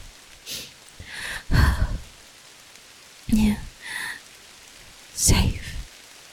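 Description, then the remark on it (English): A soft, steady hiss of rain falls throughout, gentle, with a few breathy, whispery bursts from a voice rising over it now and then. “No fever, no work, no to-do lists, just this bed, this rain, my arms, your breath.”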